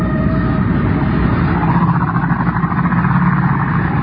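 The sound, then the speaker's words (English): A motorboat engine drones steadily and loudly, a rough low rumble with a buzzing mid-range texture that holds constant throughout, with no voices. “I think it'd be better once that motorboat leaves, don't you?”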